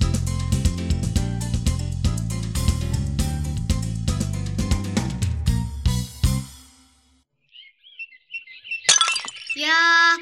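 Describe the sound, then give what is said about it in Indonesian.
Upbeat music plays and fades into near silence, then a single sudden, loud crash of a drinking glass accidentally shattering rings out, followed by a brief high tonal sound. “Pecah. Maaf, tidak sengaja. Lain kali pakai gelas plastik saja ya.”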